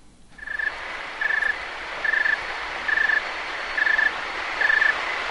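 A snowy tree cricket (Oecanthus fultoni) chirps slowly and steadily at an ambient temperature of 13 °C, six evenly spaced short trills about a second apart, clear over a constant soft hiss of background noise.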